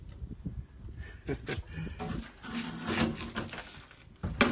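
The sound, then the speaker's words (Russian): A door creaks and groans as it is pushed shut, with a few drawn-out squeaks and bumps, ending in a louder knock as it shuts. “Какая-то дверь недушевная. Сейчас мы ее закроем.”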